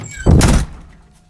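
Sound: door shutting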